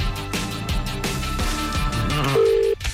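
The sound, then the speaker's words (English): A short burst of outgoing phone ringing tone, a steady electronic purr, sounds near the end, right after a stretch of busy music. No one speaks. “It's ringing.”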